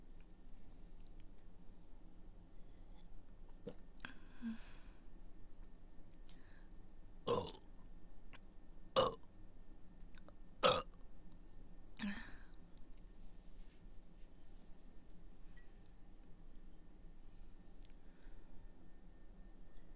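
burping

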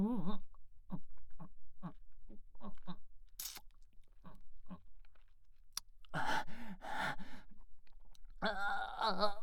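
kissing sounds

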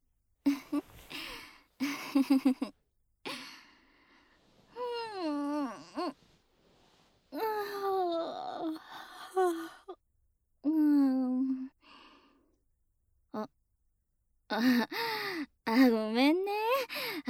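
yawn

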